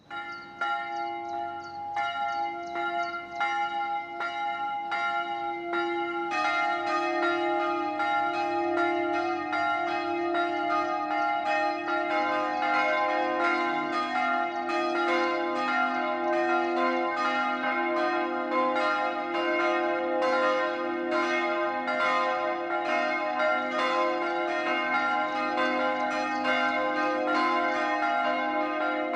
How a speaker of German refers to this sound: Es ist 12 Uhr. Das Mittagsläuten kommt heute von der evangelisch-lutherischen Erlöserkirche im oberpfälzischen Tirschenreuth.